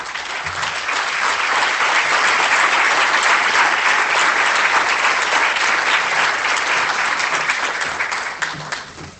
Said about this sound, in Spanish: y bueno, pues la recibimos con ese fuerte aplauso.